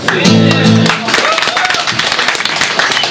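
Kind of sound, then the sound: crowd, audience applause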